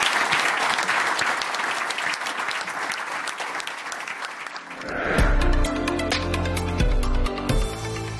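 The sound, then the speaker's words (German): Dense, steady audience applause for about five seconds for the ten company representatives at the end of the BiomaxCon 2024 panel discussion, then music with a strong low beat swells in and carries on as the clapping fades beneath it. “Großen Applaus an unsere 10 Gesellschaftsvertreter für den tollen Austausch.”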